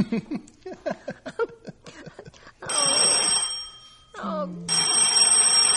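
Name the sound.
telephone bell ringing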